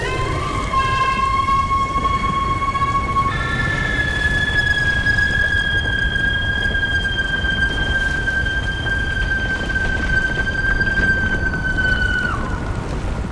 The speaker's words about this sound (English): The woman's face was frozen in a rictus of pain and torment, and was attached to a broad tendril of burning muscle, sliding between the rocks, spewing horrific flame from her gaping mouth. Then she screamed.